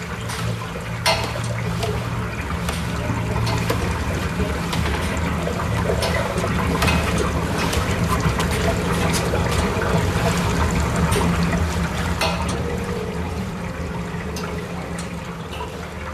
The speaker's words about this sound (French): La mer fait tanguer le bateau, de plus en plus violemment.